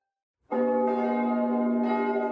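Church bells of the Jesus-Christus-Kirche in Berlin-Dahlem ring out loudly after a moment of silence, calling people to the church service, with several strikes overlapping into a rich, sustained humming peal that keeps resonating throughout.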